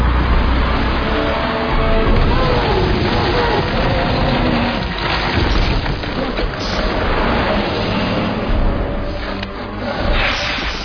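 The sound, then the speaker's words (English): A double-decker bus engine roars steadily as the vehicle drives along, a loud, continuous rumble with gritty mechanical texture and occasional whooshing swells that rise and dip over the whole stretch. “A double-decker bus!”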